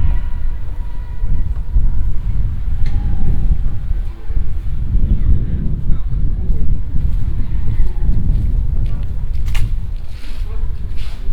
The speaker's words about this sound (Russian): На Северной, наверное, не зря оправдывает вот свое название постоянными ветрами, дующими между домов. Особенно когда на дворе стоит весна или осень, то ходить практически невозможно, потому что тебе задувают в уши этот сильнейший